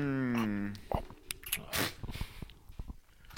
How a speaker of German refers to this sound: Ja, ich denke, ich werde auch mal von deinem Kuchen abbeißen.